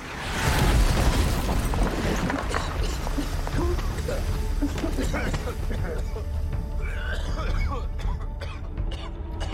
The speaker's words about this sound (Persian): کال، یه چیزی تو راهه. یه موشکه.